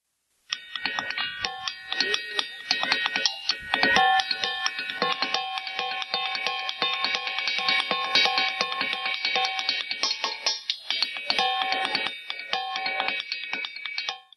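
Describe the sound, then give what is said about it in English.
Hammers rapidly strike ringing rocks, producing a dense stream of bright, bell-like clinks at many different pitches that overlap and sustain for about fourteen seconds, with no talking. “What you're doing is you're taking hammers and you're hitting rocks. These are rocks. They're known as the ringing rocks.”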